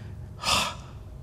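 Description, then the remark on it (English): A single short, breathy exhale rushes out, soft-edged and airy, lasting under half a second against a quiet background with no talking. “The change is accomplished in Hebrew by God breathing out onto Abraham.”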